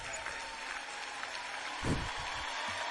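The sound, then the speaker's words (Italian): A crowd applauds steadily throughout, a dense wash of many hands clapping at moderate volume, with a few low thumps near the middle and no voices. “Dai un applauso che così mi...”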